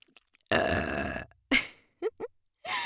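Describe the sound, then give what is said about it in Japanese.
A woman burps into an ear-shaped microphone: a long, loud, rumbling burp, followed by a shorter burp and a couple of quick throaty gulps, then another burp starting at the end. “リアルに今私が本当にマイクの前でゲップしてるんだよ。”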